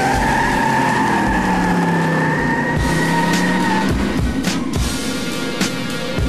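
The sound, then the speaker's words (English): A car roars away at full throttle, its tires squealing in a long, loud skid, followed by a few sharp knocks and clatters as the engine keeps growling. “Bring the car around now. Drive!”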